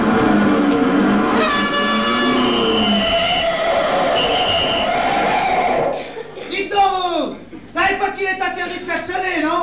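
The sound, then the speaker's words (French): A car horn blares loud in one long, sustained honk lasting several seconds, then cuts off as busy, warbling sounds and voices take over. “Mais j'ai pas klaxonné, monsieur l'agent.”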